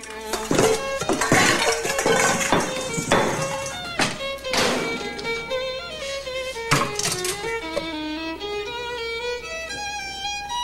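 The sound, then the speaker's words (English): Metal pots and pans clank and clatter as a woman takes them down from racks and cupboards in a dimly lit kitchen, a quick burst of sharp knocks and ringing tones, busiest at first and then thinning to a few scattered bangs. “Looking distraught, she then takes pots and pans down from racks and cupboards.”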